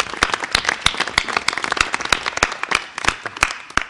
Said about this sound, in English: So I don't know if this is too forward, but I'm hoping we can give them a round of applause because they have done an incredible job.